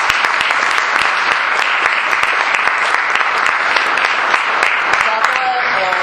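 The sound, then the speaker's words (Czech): Steady, dense festival audience applause for the organisers of a festival in Uherské Hradiště and Uherský Ostroh, Czech Republic, many hands clapping loudly in a continuous crackling wash with no pause, and a hint of a whistle or voice near the end. “Opravdu máte krásný festival a já teda tleskám pořadatelům.”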